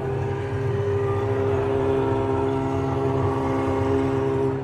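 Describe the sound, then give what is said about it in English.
A 300-horsepower Formula 3 race car engine holds a steady, loud droning roar with strong humming harmonics, its pitch barely changing across about five seconds, and no voices. “we just saw the Formula 2 and Formula 3 cars.”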